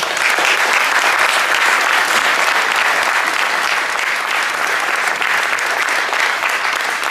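Sustained applause and ovation from a large audience thanking an FCPJ tournament organiser, a dense, steady wash of clapping that stays loud and even for several seconds without pause or spoken words.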